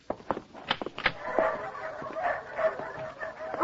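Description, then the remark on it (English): A dog in a cage barks and yips in a quick run of sharp bursts, then keeps up a steady, high-pitched excited yipping and whining. No one speaks. “There he is. There's Jumpy. Oh, Jumpy.”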